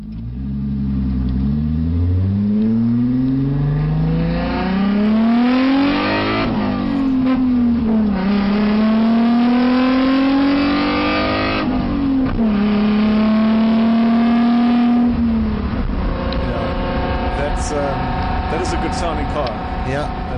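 The 3-liter V6 engine of an Alfa Romeo GT road car, heard onboard from inside the car while driving, loud, revving up through several gears with rising pitch sweeps and brief drops at each shift.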